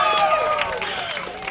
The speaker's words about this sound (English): So booze, music, and food. I'm going to need to hear more clapping than I've heard before.